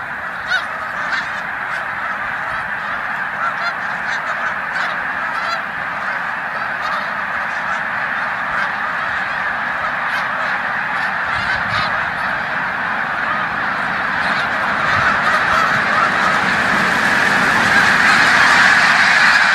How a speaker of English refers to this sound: 10,000 geese flying all at once. That is just like Alfred Hitchcock, The Birds times a couple of thousand. That is just freaky